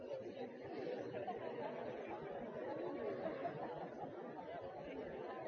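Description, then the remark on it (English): A crowd chatting with their neighbors for a minute as asked, a dense, steady hubbub of many overlapping voices with no single speaker standing out, holding at an even level throughout. “I want everybody in the crowd to talk to your neighbor just a minute.”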